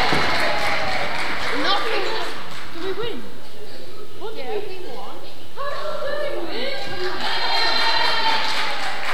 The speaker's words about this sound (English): Right, so this team over here were the winners. So round of applause for this team.